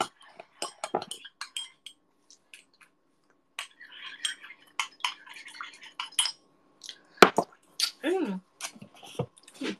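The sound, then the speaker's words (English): Milk is poured into a cup with Milo powder, a soft splashing stream amid sharp clinks of a spoon and dishes, with scattered vocal sounds. “And we pour the milk.”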